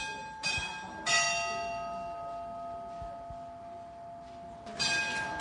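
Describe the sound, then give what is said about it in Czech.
A small bell on the astronomical clock in Žatec, pulled by the figure of Death as the clock sets in motion at 3 p.m., rings in a few distinct strikes, each leaving a bright, sustained metallic tone that lingers and fades, over a low murmur of ambient crowd noise. “A orloj už se dal do pohybu, jsou 3 hodiny odpoledne, tak tamhle zvoní zvoneček, smrtka teďka tahá za zvonek.”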